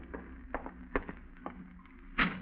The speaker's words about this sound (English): An hour later, you're startled by a knock at your door.